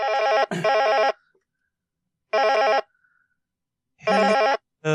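A telephone rings in loud bursts: one long ring, a second after a pause, then another just as the next begins, with silence between and no talking.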